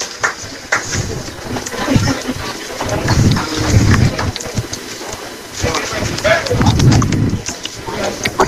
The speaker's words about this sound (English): That, my friends, was my buddy slurping the old water. That was priceless.